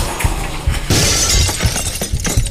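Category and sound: impact, window glass shattering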